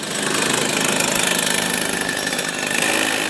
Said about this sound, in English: Lance warms the kart engine up before another practice for the World Champs.